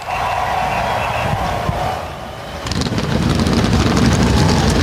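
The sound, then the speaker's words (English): Several powerful NASCAR Cup Series race car engines start up on the pit lane at Talladega, idling with a steady droning hum, then roaring louder partway through as they rev up, filling the scene with a dense, crackling rumble. “Engines come to life on the pit lane, the NASCAR Cup Series, getting ready to race at Talladega.”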